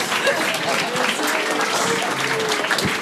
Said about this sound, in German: Hat einen Applaus verdient.